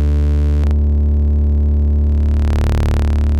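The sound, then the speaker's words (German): A steady, buzzy synthesizer drone of two sawtooth oscillators, the second (VCO 2) tuned an octave below the first, with a thick low fundamental and dense harmonics; a brief click near the start and brightening toward the end. “Geben dem jetzt, bleiben wir doch mal auf dem Sägezahn und stimmen dem mal eine Oktave tiefer.”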